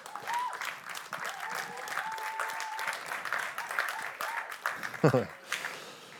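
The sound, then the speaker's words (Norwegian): A church audience applauds the worship band, a dense patter of many hands clapping with scattered cheers and voices mixed in, one louder burst near the end before it starts to taper. “Kan vi ikke gi dem en applaus?”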